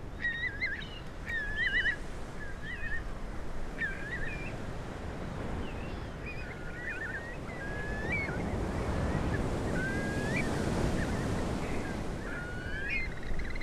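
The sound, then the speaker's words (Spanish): A steady low roar of far-off sea surf rolls beneath the scene before dawn, while scattered whistling calls of shorebirds such as curlews and sandpipers ring out repeatedly across an open, wind-brushed estuary mudflat at Carnota, on the Costa da Morte in Galicia, Spain. “en plena madrugada, en un estuario, ni mar ni tierra, un barrizal inmenso en la Costa de la Muerte, en Carnota, en Galicia, escuchando el mar a lo lejos”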